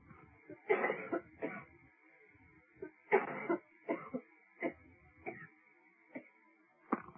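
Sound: coughing and throat clearing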